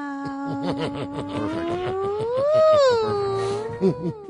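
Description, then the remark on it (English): A person imitates a long, stretched-out cat meow: one sustained voiced wail that starts low, rises and wavers in pitch through the middle, then dips and trails off over about four seconds. “Can we hear a really drawn-out meow, like a real stretched-out meow?”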